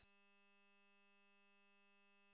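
A digital DMR transmission picked up on an analog radio: a harsh, steady electronic buzz with a raspy, reedy tone that holds unchanged for the whole clip, with no voices.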